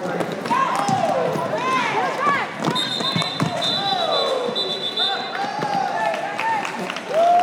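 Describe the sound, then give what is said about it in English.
Loud, continuous crowd cheering and shouting at an Orlando Derby women's roller derby bout, with overlapping yells, sharp thuds of hard hits as players crash to the ground, and a long high whistle sounding midway. “Once the derby begins, the crowd goes nuts.”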